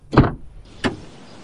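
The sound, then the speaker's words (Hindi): A car door clicks open with a solid thunk as the driver gets out on a cold day, after braking in the middle of the road beside an old cemetery with a punctured front tyre; a second sharper latch sound follows a moment later, with no voices. “मैंने जल्दी से ब्रेक लगाई और हिम्मत करके गाड़ी से उतरा।”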